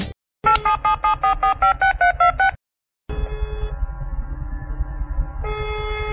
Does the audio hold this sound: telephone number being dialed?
yes